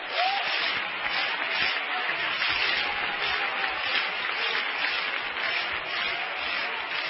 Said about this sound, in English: We need to clap our hands about that.